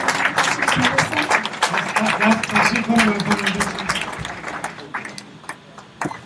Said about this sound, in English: Would you clap your hands and you may be seated.